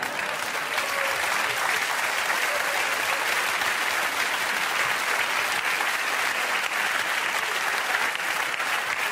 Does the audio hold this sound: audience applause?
yes